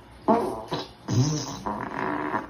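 fart sound effect

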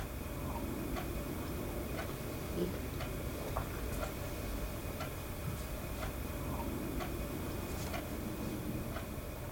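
clock ticking

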